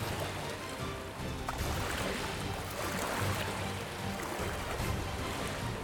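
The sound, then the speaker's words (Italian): Waves splash and churn steadily around a boat as the helmsman turns it sharply, a continuous rushing wash with a low rumble underneath, fairly loud, with no voices. “E il timoniere allora virò bruscamente, provocando un rumore di onde.”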